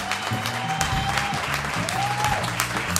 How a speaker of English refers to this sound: Give her a great round of applause.